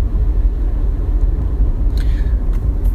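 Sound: car driving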